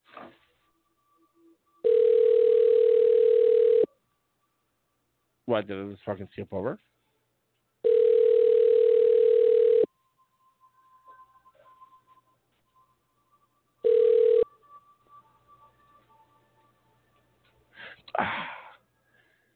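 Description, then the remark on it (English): A phone line rings out on an outgoing call: loud, steady buzzing tones about two seconds long, repeating after pauses, the third cut short, with a man talking in the gaps. “Come on, voicemail. I'm gonna leave a message. Start ringing.”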